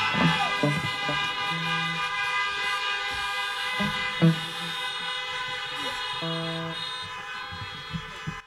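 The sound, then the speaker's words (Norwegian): A chorus of vehicle horns honks for a person steadily for several seconds, sustained blasts layered over one another with a few shorter toots breaking through, loud with no talking. “Ok, og vi tuter videre”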